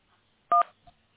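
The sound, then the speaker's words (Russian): A single telephone keypad tone from pressing a key in an automated phone menu, a short loud dual-pitched beep lasting about a tenth of a second, followed by a faint brief click in otherwise quiet line noise. “Чтобы получить информацию о представителе кредитора, нажмите клавишу 1.”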